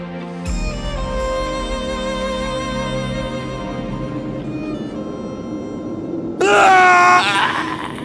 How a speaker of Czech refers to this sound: Co je tohle? Ticho v řesoviště protěl děsivý výkřik. Táhlé zaskučení plné hrůzy a úzkosti. Ten strašný zvuk mi zmrazil krev v žilách.